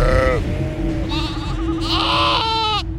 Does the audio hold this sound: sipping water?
no